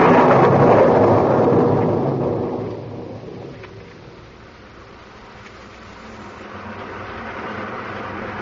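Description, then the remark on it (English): A heavy rainstorm hisses steadily over a wet, glistening street, opening with a loud, low rumble of thunder that slowly fades, leaving a continuous wash of falling rain that swells slightly again toward the end. “Down through the rain, down through the wet, glistening street he came”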